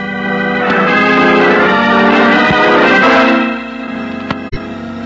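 A bell rings loudly and continuously for about three and a half seconds, bright and metallic with layered overtones, then cuts off, leaving a faint hum and a couple of sharp clicks.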